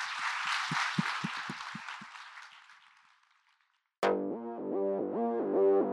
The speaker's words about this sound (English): Thank you to our great panel. Yeah, thank you. Round of applause.